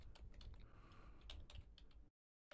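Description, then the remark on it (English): Rapid, uneven clacking of computer keyboard keys, fairly loud, as someone types to record information, a steady burst of typing that stops abruptly near the end, then resumes briefly. No voices. “Okay, so in discussing, and you can hear the keys clacking because we need to clickety clickety clack.”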